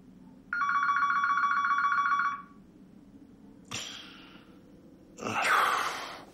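A single electronic telephone ring for a wake-up call at 4:30 a.m., a steady buzzing trill of about two seconds, clear, followed by a couple of breathy exhales or sighs.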